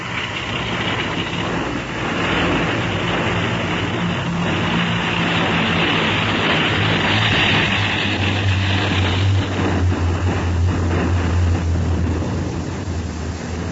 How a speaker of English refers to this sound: Boat ran past without slackening speed.